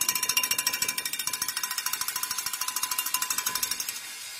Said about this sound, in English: Friends, let's be as bold about proclaiming the goodness of our God out in the world, as bold as we are about ringing our bells here in this place.